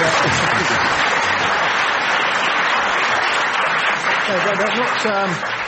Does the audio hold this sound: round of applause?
yes